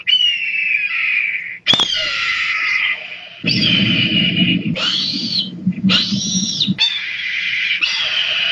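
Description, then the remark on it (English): Loud, piercing hawk screeches ring out repeatedly, long harsh cries with brief gaps between them, some overlapping a rougher lower rasp, dominant with no talking. “So you're wondering why I'm playing hawks.”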